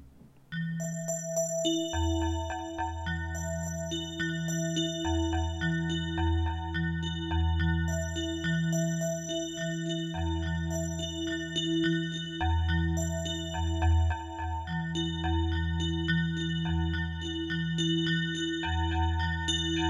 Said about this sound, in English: I'm not really even sure what that was. Just some bells. There you have it. The bells.